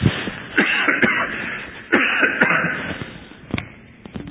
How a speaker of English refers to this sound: excuse me, I'm going to cough.